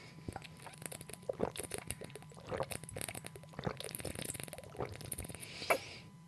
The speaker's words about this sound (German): So, ich muss erstmal vorher einen Schluck trinken, damit ich auch flüssiger lese. Prost.